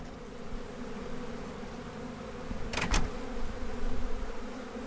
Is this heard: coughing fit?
no